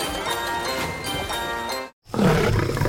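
A lion roars loudly in a long, rumbling growl, breaks off for a brief silence, then launches into another deep, forceful roar.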